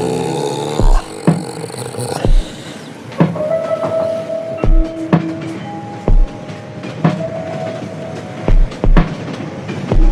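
A train rolls along the rails with a steady low rumble, broken by loud clickety-clack thumps from the wheels every second or so, and a faint metallic whine drifts in and out. No one speaks.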